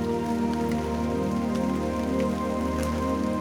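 Steady rain patters on a hard surface, a continuous wash of drops with a few sharper splashes standing out, alongside a low sustained hum and no voices.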